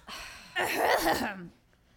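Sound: throat clearing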